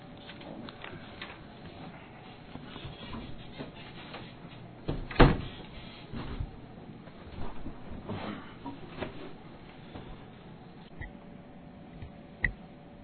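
A door swings shut with a sharp, solid thud partway through, followed by softer clunks and latch-like clicks in an otherwise quiet room, close by and moderately loud.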